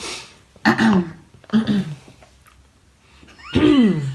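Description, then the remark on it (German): Three loud, rasping throat clearings spaced a second or two apart, each a gravelly burst with a low voiced groan that slides downward, with quiet pauses in between and no talking. “Du solltest dich nicht räuspern.”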